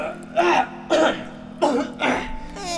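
Four rough, hacking coughs in damp underground catacombs, falling loosely into two pairs with short pauses between them, with no talking.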